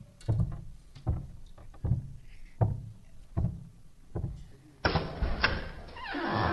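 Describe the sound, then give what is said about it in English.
Someone knocks on a door in a slow, steady series of about seven deep, heavy thuds, evenly spaced, then a sudden broad rushing noise takes over at the end. “Oh, our apologies for all the knocking.”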